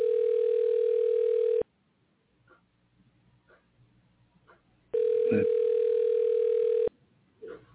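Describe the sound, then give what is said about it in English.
A telephone ringback tone purrs twice, each steady buzzing ring lasting about two seconds with a long quiet gap between, and the call goes unanswered. The rings are loud and clear, with no voices. “Let's see if we're going to get this call answered here.”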